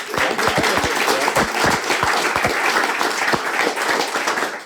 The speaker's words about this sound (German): Ja, also einen Applaus für unseren.